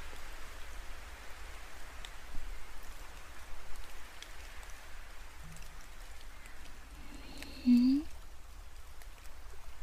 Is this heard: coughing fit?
no